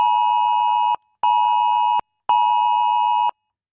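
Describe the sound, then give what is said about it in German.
A loud, piercing electronic alert tone sounds in three long, steady bursts of about a second each, separated by short gaps, the emergency warning signal on many mobile phones at 11 a.m. on Germany's nationwide warning day, with no voices present. “So wird es heute um 11 Uhr wieder bei vielen Handys zu hören sein.”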